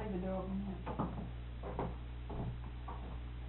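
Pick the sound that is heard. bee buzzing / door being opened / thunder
door being opened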